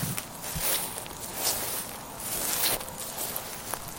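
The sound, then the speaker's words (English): Soft, irregular shuffling footsteps outside the house, gritty scrapes and rustles with a few sharper taps, steady at a low level for a few seconds with no one talking. “I hear shuffling outside.”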